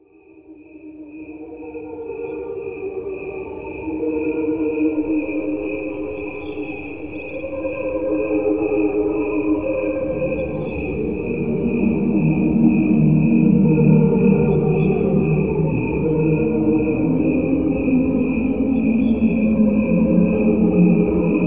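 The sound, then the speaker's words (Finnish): Steady, rapid cricket chirping pulses throughout at normal speed, layered over a second track of the same crickets slowed down, which turns into warm, low, choir-like swells, gradually growing fuller and louder. Only crickets; no instruments or other sounds added. No one speaks. “Kuuntele tätä nauhaa. Kuulet äänitteen sirkoista. Siinä on kaksi raitaa.”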